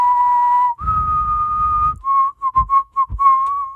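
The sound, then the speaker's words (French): A person whistles an imitation of a sparrow's song: two long, steady clear notes followed by a quick run of short, choppy notes, fairly loud, with no talking. “est-ce que tu peux me faire le sifflement du bruant?”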